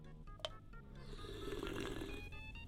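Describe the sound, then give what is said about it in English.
Someone slurps a Diet Dr Pepper through a straw in a long, gurgling, airy draw that swells in the middle and tapers off, with no one talking. “Hear me slurp down.”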